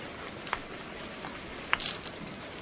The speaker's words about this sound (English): It's raining.